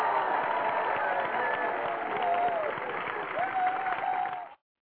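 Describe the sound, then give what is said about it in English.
A crowd applauds steadily for several seconds for President Obama, dense clapping with a few whoops and cheers rising over it, then the sound stops abruptly. “You know, he's going to go out there and do those things for poor people, but of course they're not going to applaud him, but we will right now.”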